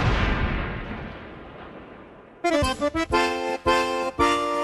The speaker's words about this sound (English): Come on, let's fire the cannons for Brady and the Bucks.